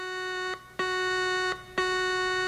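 A harsh, buzzing electronic warning alarm blares in the distance through underground corridors, in steady repeating pulses, each about a second long with brief gaps between, loud and insistent with no voices present.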